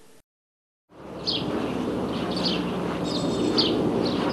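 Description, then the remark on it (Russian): Birds chirp outdoors on a sunny day at a correctional colony in the settlement of Metallostroy, in short, high bursts repeating every second or so over steady, broad ambient noise, starting after a brief silence. “Птицы щебечут, солнышко светит, и пусть вокруг пункты наблюдения и проволока колючая.”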